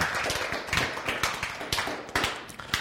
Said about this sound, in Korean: 박수.